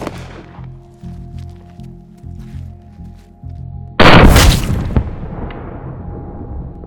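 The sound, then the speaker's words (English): A single loud gunshot from a Gold Dot round fired at a dummy's upper right chest cracks out after several seconds of low, steady humming, then rings off in a short fading tail. No one speaks. “Yeah, it seems to do exactly what all the other bullets we've tested done, which is they will fuck you up.”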